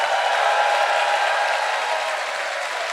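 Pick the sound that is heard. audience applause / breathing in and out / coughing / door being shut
audience applause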